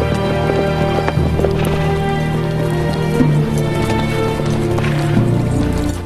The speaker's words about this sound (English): They break into a canter as they approach the bar with the lone horse tethered outside.